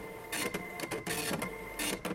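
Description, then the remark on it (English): A slow printer runs in bursts, its whirring mechanical passes stopping and starting several times with brief pauses between, fairly loud, with no voices. “Sorry, slow printer.”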